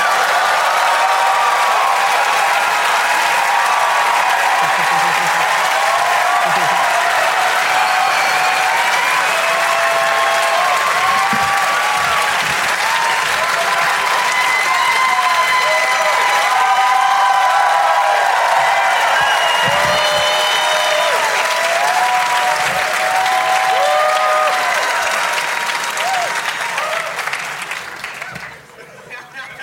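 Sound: audience applause and cheering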